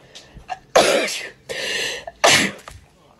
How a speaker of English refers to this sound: Oh, I've got the sneezes from that tomato.